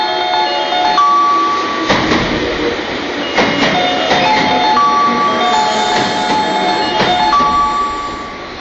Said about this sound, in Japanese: 17番乗り場に12時24分発区間快速 JR 難波雪が4両で参ります。黄色い線までお下がりください。17番乗り場に電車が参ります。